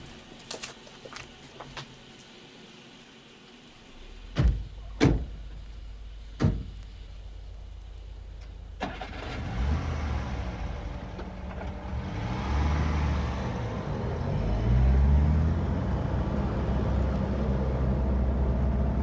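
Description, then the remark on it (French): A few small clicks, then three solid car door thuds close together. An engine starts and the chauffeur's car from the Golden Cottage pulls away, its low rumble building and continuing steadily to the end. No voices. “Si vous voulez bien me suivre, la voiture est devant la porte.”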